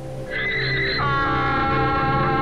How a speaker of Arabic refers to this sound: نهق الحمار مجددا